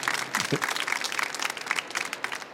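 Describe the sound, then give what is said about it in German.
An audience applauds steadily to welcome a guest, dense overlapping claps forming a continuous wash of sound, fairly loud, with no pause across the short stretch. “Ja, das ist nochmal ein Applaus wert.”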